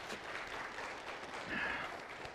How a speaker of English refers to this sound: Two in college. So, again, let's give them a round of applause.